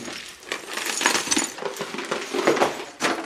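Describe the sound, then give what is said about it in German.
Broken clay flower pot shards pour into the bottom of a planter as a drainage layer in a continuous rattling clatter of hard, clinking fragments, with a few brighter clinks rising out of the dense scraping shuffle. “Recycling von kaputten Blumentöpfen auf der Zunge.”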